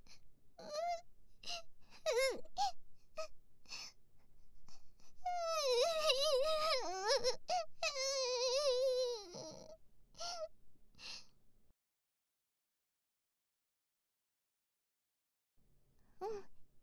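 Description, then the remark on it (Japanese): A woman cries softly in shaky sobs and gasping breaths, with a longer wavering wail in the middle, then quiet hitching sniffles before the sound fades into silence. “泣いてないよ。泣いてないから。”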